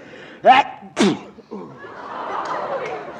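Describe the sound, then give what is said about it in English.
A loud, abrupt sneeze comes in two sharp, explosive bursts about half a second apart, followed by a soft, breathy rustle with no talking. “Bless you.”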